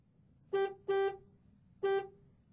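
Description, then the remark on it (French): A truck horn honks three times, two quick blasts close together then a third after a short pause, loud over a faint low rumble, with no one speaking. “Voici le camion.”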